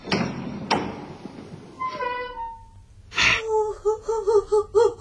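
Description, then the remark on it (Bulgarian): A heavy iron door clanks twice, then its hinges groan with a drawn-out metallic creak as it swings open, followed by a sudden burst and a series of rhythmic, whimpering tones. “Да отворим тази желязна врата.”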